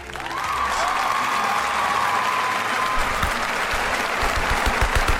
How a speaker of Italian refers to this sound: Molto bene, sfumiamo gli applausi, grazie.